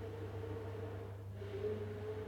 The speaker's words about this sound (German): Alright, ich hoffe, ihr hört es nicht, oder ich höre es gerade mega im Kopfhörer. Ich glaube, Julia hat gerade den Mixer angeschmissen. Wahrscheinlich Healthy Smoothies oder irgendwas.